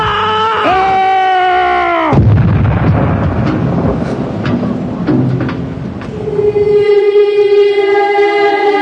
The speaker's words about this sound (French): Je crois que quelqu'un vient d'essayer de vous tuer en vous jetant cette statue de pierre sur la tête, docteur.